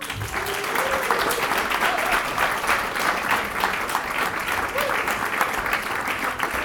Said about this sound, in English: We're going to do lots of clapping and cheering today, so we better get used to it.